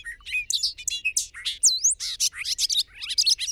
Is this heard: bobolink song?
yes